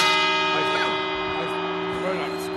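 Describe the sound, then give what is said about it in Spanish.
A clock tower bell rings the New Year's chimes with a rich, sustained tone whose overtones hang steadily in the air, a faint murmur of voices underneath. “Que si, espérate, que esos son los cuartos, que no, que son las campanadas.”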